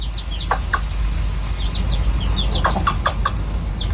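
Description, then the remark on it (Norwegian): A mother hen named Silvia clucks in short, soft bursts while her own newly hatched chicks peep in high, thin chirps scattered throughout, over a low rumbling background. “Du, før vi kakler videre så skal vi høre på litt sånn ekte kakling her”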